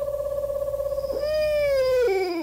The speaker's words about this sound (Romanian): Asta e tot bufniță, măi. Ia. Asta e mai răgușită.